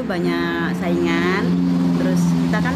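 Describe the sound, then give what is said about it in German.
Voices talk at a roadside food stall between Balikpapan and Samarinda, where the future capital is planned, while a steady low rumble of traffic runs underneath, with vehicles passing continuously. “Ein Straßenimbiss zwischen Balikpapan und Samarinda, dort, wo die Hauptstadt irgendwann sein soll.”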